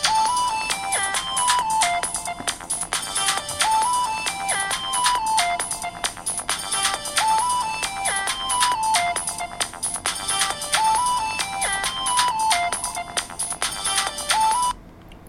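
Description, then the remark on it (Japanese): A phone ringtone for an incoming call from a landline plays a repeating electronic melody of bright, stepped tones, looping steadily at full volume for about fifteen seconds with no one speaking, then cutting off at the end; the phone is on its lock screen with TalkBack turned off. “呼び出しが始まりました。”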